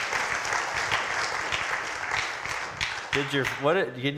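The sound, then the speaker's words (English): An audience claps steadily for about three seconds, a dense, even patter of many hands, then fades as a voice begins speaking over the last of the applause. “Yeah, we can clap for that part.”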